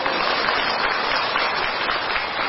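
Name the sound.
audience clapping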